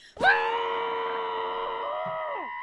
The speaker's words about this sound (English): Right, let's go. Let's do this. It's time for Screaming Into a Pillow. 3, 2, 1.